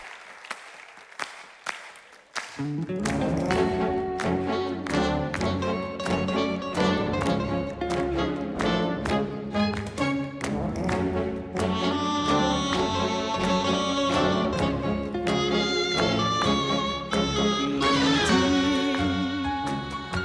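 A few scattered claps give way to a live band launching into a tango at a concert broadcast by Televisió de Catalunya, with a steady bass pulse under bright melodic lines, full, playing without any voices.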